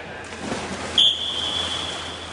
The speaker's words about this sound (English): About 20 men and women are practicing sprints in a pool.